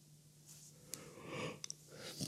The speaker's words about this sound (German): hat gerade gegähnt. Oh ja, es tut mir leid, ich bin irgendwie... Ja. Also auch wenn man es gehört hat, es tut mir wirklich leid. Ich bin irgendwie durch heute.